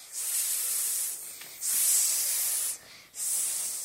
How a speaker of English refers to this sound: So I went upstairs and went to the bathroom to take a shower.